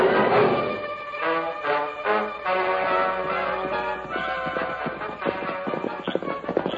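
A horse's hooves clop in a quick, steady rhythm, growing more distinct as it draws closer, with a swelling musical backdrop underneath and no one talking.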